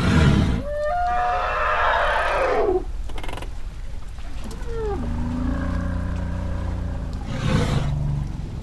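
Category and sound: animal, elephant call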